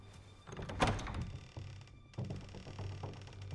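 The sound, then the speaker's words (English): In a film scene, English pushes open the front door of Volta's blocky, modern country house with a dull thunk and a creaking, scraping swing, followed after a short pause by a second rattling movement of the door. No one speaks. “He pushes through the front door and nods with recognition at the flagstone corridor ahead of him.”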